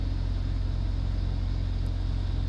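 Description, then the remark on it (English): Idling trucks at a truck stop with about 250 trucks parked: a steady, deep diesel rumble with a low pulsing throb that holds constant throughout, with a faint hiss above it and no voices. “This truck stop probably has 250 trucks, okay?”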